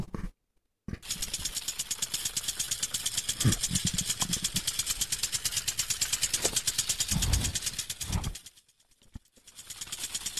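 An electric hand mixer beating waffle batter whirs in a loud, steady, rapidly pulsing buzz for several seconds, with a few dull knocks, then cuts out briefly and starts up again more quietly.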